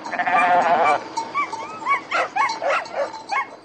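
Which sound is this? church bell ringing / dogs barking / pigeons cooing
dogs barking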